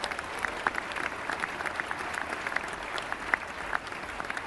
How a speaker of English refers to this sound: Yeah, let's give him a round of applause for Ian Abercrombie.